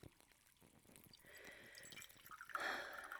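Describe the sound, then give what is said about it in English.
Tea pours into a cup in a soft, steady trickle, its pitch rising as the cup fills, ending in a brief, slightly louder splashy swell. Quiet, with no talking. “Here, let me pour you a cup.”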